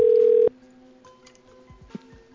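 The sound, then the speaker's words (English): A loud, steady telephone dial tone hums for about half a second, then cuts off abruptly, leaving faint background noise with a small click near the end. “I'm sorry, my phone's acting up.”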